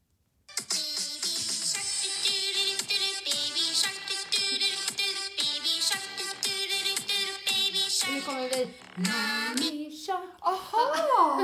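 A children's song plays loudly after a brief pause, a bright, tinny melody with a quick, steady bouncing beat, ending with sliding sung notes near the close.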